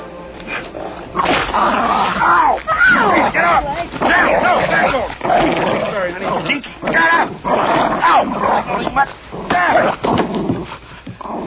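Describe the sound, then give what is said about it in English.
A dog barks and yips repeatedly and loudly, in a busy, continuous stretch of excited yelps and whines that runs through nearly the whole recording. “I killed that dog.”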